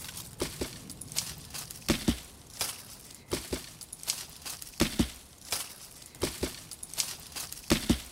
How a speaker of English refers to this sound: So the beginning of this musical experiment was to create the rhythm first. And to create the rhythm, I used a big branch by hitting it against the cortex and leaves. So basically it's like this.